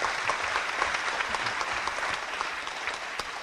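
An audience at an evening forum at Mount Olive Baptist Church in Buffalo applauds Pastor Gillison steadily, a dense, even wash of many hands clapping at once that holds at the same level for the whole few seconds, with no voices heard over it.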